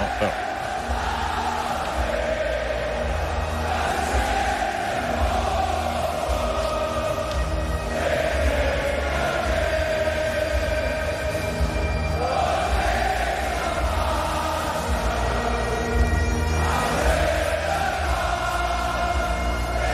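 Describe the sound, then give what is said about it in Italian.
A huge stadium crowd of Scotland fans sings the Scottish national anthem together at a European Championship match, a dense wash of voices with swelling, sustained notes rising and falling steadily at a constant loud level. “Dopo il successo dell'Inno d'Italia, eccolo l'inno scozzese.”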